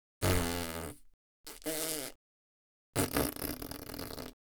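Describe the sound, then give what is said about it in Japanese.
Three loud farts from a person who has taken off a skirt and kept panties on, with silent gaps between them: a long tonal one with a falling pitch, a shorter buzzy one, then a longer raspy, noisy one. “私、おならが好きなの。”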